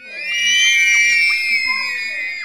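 High-pitched screaming rings out continuously for a couple of seconds, loud and piercing, with several shrill voices layered together, echoing in a school corridor outside a classroom.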